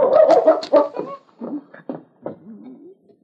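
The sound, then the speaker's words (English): A dog, King, goes to the back door and barks in a quick burst of several sharp barks, followed by a few scattered yips and a short whining, sliding whimper at the end. “The intelligent dog sniffed a moment, and then going to the back door, he barked.”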